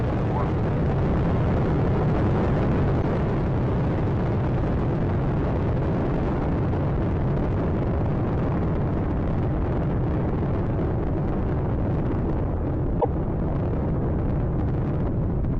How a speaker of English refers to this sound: Atlantis on its way, all three engines now throttling down as the area begins, as the vehicle passes through the area of maximum dynamic pressure.